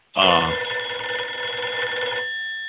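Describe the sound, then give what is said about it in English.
A telephone rings with an incoming call from Idaho, a loud, sustained bell-like trill lasting a couple of seconds, its bright metallic tone steady before fading slightly at the end. “It's still ringing.”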